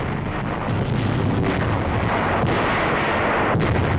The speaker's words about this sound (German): In einem englischen Film, der wie Propaganda daherkommt, wird der Luftangriff von oben gezeigt. Ich sehe, wie die Bomben explodieren. Helle Blitze. Nürnberg brennt.